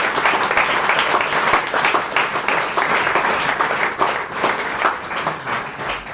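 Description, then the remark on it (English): Sustained audience applause for the guys at the end of a show, a dense steady wash of many hands clapping at an even loudness for several seconds, with no voices standing out. “And I think this is another great applause for the guys.”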